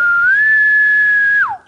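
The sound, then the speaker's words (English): A single sustained whistle held on one steady high pitch for over a second, then sliding sharply downward at the end, a human imitation of a faraway bull elk's bugle, heard alone without talk. “can whistle where it sounds like, you know, like when you can't even tell if you heard a bull or not, it's so far away.”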